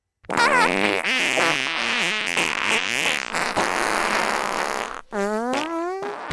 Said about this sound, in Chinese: 听我的口令，姐妹们，脱下裤子，把你们的屁眼儿对准山洞里。三、二、一，放屁！